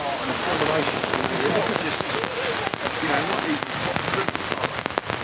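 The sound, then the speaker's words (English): Torrential downpour in Liverpool: a dense, steady roar of rain with sharp crackling drops pattering on a surface throughout, loud and unbroken, with an indistinct voice faintly underneath. “so I thought I'd come and experience some of the delights Liverpool has to offer, starting with the weather. You can probably hear that.”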